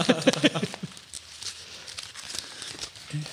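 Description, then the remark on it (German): Crinkling and tearing of gift wrapping paper as a present, an umbrella, is unwrapped, a burst of rustling at the start followed by softer scattered crackles and crinkles, with a brief voice-like sound at the start. “Dann machen wir das jetzt mal auf. Knister, knister, knister.”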